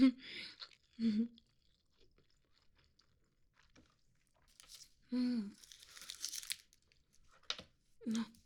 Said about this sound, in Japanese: 海苔だらけ。おにぎりごちそうさまでした。